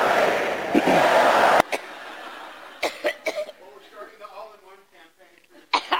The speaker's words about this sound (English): Reports that she can barely stand up after giving a speech. The coughing fits, which is yet another side effect of strokes.